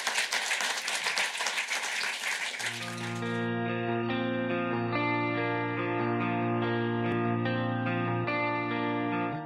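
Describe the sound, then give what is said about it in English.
A few seconds of steady crowd applause, dense and fairly loud, fading out as sustained electronic music with layered tones takes over for the rest. “Applause, please.”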